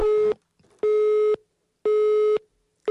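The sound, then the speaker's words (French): A telephone busy signal after a caller hangs up: steady, evenly spaced electronic tones at a single mid pitch, each lasting about half a second with equal gaps between, loud and alone with no voices. “Bip, bip, bip, bip. Ne raccrochez pas, s'il vous plaît.”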